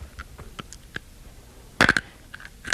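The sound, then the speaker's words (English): Crunching of something hard being chewed in the mouth in the dark: a scattering of sharp little cracks, then a louder cluster of crunches partway through, with no talking. “we have to get to where we can see each other crunching”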